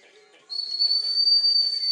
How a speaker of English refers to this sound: And he's not responding to the whistle.